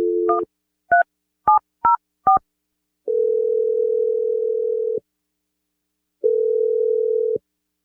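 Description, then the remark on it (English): A phone dial tone cuts off into five quick touch-tone key beeps as a phone number is dialed on the radio show Brooke and Jeffrey in the Morning, then two long, steady ringing tones with a pause between them. Clear, no voices. “I'm going to dial it, and we're going to get you your second date update.”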